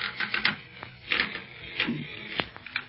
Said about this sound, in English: Golly, this bed's creaking's almost as loud as Barney's snoring.